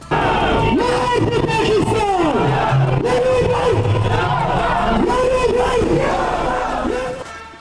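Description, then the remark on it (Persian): A large anti-Pakistan protest crowd in Kabul, Afghanistan chants and shouts in unison, loud and continuous, with rising and falling voiced cries repeating in rhythmic waves over a dense roar of many voices. “همزمان با سفر این هیئت به پاکستان، کابل دیروز شاهد تظاهرات ضد پاکستان بود.”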